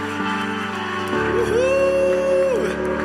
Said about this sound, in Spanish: ¿Por qué no levantas un aplauso grande al cielo en esta mañana? Aleluya.